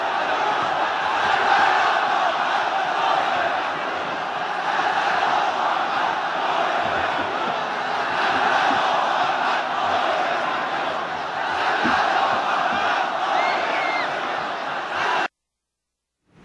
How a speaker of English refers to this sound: The leader was also welcomed by thousands more of his devout followers who had been waiting for hours at the holy shrine of Hazrat Masuma.